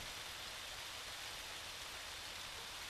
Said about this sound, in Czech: Prší.